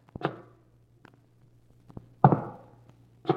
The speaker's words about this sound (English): And one night I heard footsteps above me in the tower.